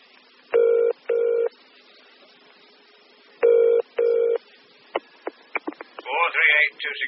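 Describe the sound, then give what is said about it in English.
A home telephone rings twice in a double-burst pattern, each ring a bright, buzzy tone, followed by a few sharp clicks as the receiver is picked up and a voice begins speaking. “Oh, sorry to ring you at home, Chief Inspector.”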